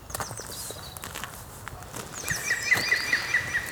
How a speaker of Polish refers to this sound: O właśnie, tam w oddali śmieje się dzięcioł zielony.